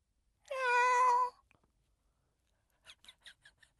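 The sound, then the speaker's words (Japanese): A person's voice does a long, drawn-out, loud imitation of a cat's meow meant to say 'understood' or 'okay', followed after a pause by a few short, quiet breathy sounds. “猫飼ったことある？”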